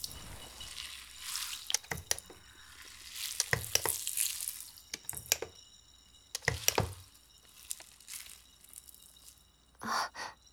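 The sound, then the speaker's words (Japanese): Foam is added and lathered: soft, wet squishing and fizzy crackling, broken by several louder bursts at irregular intervals, with a final puffy spurt near the end. No one speaks. “ちょっと泡足そうかな。”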